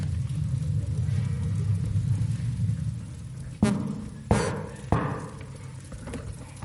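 Three sharp knocks on a door at Christmas time, made by Postman Sam delivering cards, spaced a little over half a second apart, rise clearly above a steady low rumbling hum, with no one talking.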